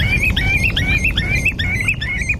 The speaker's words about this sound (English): Any time I go for a walk on the beach, you mightn't always see the ring plover, but you'll hear him, and I never would have paid attention to that sound before.